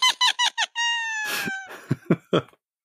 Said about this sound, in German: Ja, wenn keiner hinschaut, dann sprechen uns die Meerschweinchen tatsächlich so